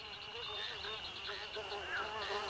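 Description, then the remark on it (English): A thin, steady high-pitched whine of mosquitoes buzzing continues throughout, with a faint wavering hum beneath it and no pauses. “Ah, mosquitoes! Good thing Mommy brought the repellent.”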